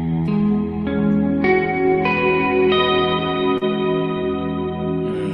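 Electric guitar chords ring out with heavy reverb, played with the low E string open, the index finger barring the 11th fret and the middle finger on the B string at the 12th fret, strummed in a slow sequence of about six changes, each sustaining into a lush, washy tail with no voices.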